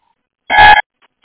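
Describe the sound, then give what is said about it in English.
A short burst of harsh radio squelch noise lasting about a third of a second, followed by two faint, brief clicks, with no voice coming through, as bus unit 470 keys its radio handset without speaking. “470. Still just getting clicks.”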